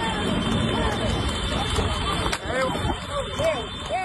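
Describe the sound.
Horse hooves clatter on tarmac during an illegal street horse race near Palagonia, Sicily, amid a steady roar of traffic, with scooters beeping and people shouting from the roadside throughout.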